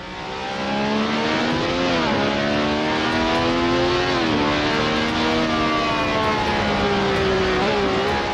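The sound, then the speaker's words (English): A loud, high-pitched Formula One race car engine screams, its pitch climbing steadily and dropping sharply at each gear change, repeating several times with no voices. “Formula One car's an animal.”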